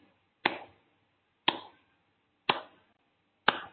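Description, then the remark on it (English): Four slow, steady hand claps, evenly spaced about a second apart, each crisp with a short ringing decay, and no talking in between. “And start slowly clapping your hands.”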